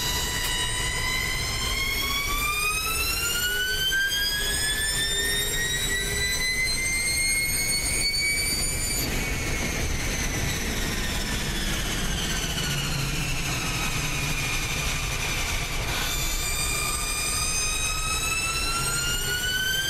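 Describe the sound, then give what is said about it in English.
Loud, continuous high-pitched whine from a new electric touring car's motor, heard onboard, sweeping upward as it accelerates, dropping twice and climbing again, over a steady low road rumble. No one speaks. “Got some onboard action now on this new electric touring car.”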